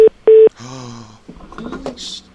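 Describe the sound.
Two loud, steady phone keypad beeps in quick succession, the second longer, as someone switches to another phone, followed by a brief voice and some handling clatter.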